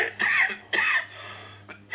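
A man coughs hard into the mic, two loud, raspy bursts about half a second apart, then a softer cough starting near the end, with no talking.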